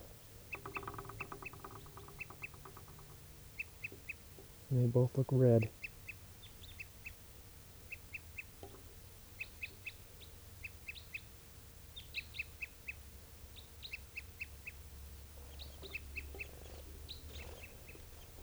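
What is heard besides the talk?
crossbill toop calls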